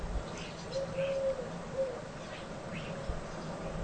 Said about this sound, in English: I'm looking into the rear gardens of near neighbours, and that's a pigeon. Can you hear that pigeon? Let's get closer to the window. Pigeon.